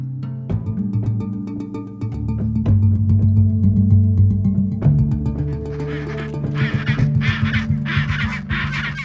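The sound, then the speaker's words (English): A dense chorus of penguins braying and honking from a crowded colony in Antarctica, many harsh overlapping calls, with gusty noisy bursts toward the end. “Over the decades that you've been coming here counting all these birds, do you have any sense of a cumulative number, how many penguins you've actually counted?”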